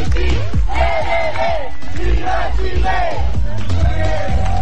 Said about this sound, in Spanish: Él fue el último en llegar y llegó a la meta igual. Y toda la gente lo ovacionó cuando iba llegando. Iba acompañado de ambulancias, iba acompañado del público presente ahí, niños.